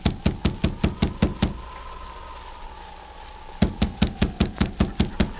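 A rapid series of firm knocks on a wooden cabin door, about seven raps, a pause of silence, then another equally brisk burst of knocking; no voices.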